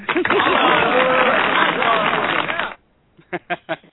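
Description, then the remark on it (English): A burst of applause sound effect, played on a show to welcome a poultry scientist guest, fills the first few seconds, dense and steady with some cheering mixed in, then cuts off abruptly; after a short pause a voice begins speaking. “Got a little applause there for you.”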